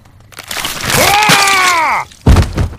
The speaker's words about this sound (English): just smashed that man's head in!